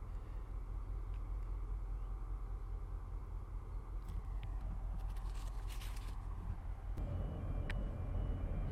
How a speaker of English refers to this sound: Anyway, it is a beautiful morning, and there goes the last car. I wonder if I should wait here until the ferry leaves.